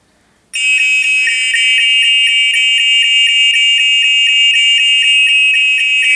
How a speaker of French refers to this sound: on a un bouton secours que si jamais une fois il nous arrive un accident, on peut déclencher une alarme et puis à l'extérieur, ils savent qu'on a un problème dedans. Faites-le, ouais. Ouais, attention les oreilles, alors. Ça sonne.